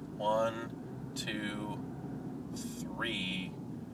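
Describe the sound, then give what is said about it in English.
Four tour buses rumble past, the last one towing a trailer, in a steady, heavy low engine drone, with a few brief higher whining, voice-like tones rising over the traffic noise. “1, 2, 3, 4 buses, and this last bus is towing a trailer.”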